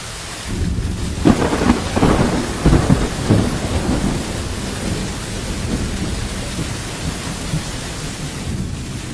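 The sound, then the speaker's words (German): A thunderstorm recorded outdoors: heavy rumbling thunder rolls in over the first few seconds, then fades while steady, dense rain keeps hissing throughout. No voices. “Das spiele ich euch mal ein, wie das sich so anhört beim Gewitter.”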